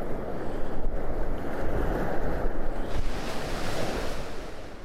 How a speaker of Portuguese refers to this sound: Sempre que a onda quebrava, ela fazia um som alto e assustador.